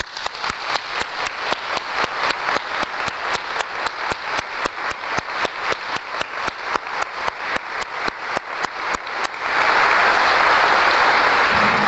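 A parish audience applauds a priest, clapping in a steady, synchronized rhythm of sharp, loud beats, then breaks into a continuous wash of scattered applause for the last couple of seconds. No one speaks.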